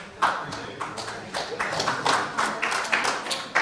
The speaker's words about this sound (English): You guys don't have to clap until after you hear me.